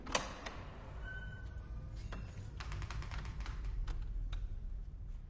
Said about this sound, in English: She pushes open a pair of double doors, revealing the gallery room.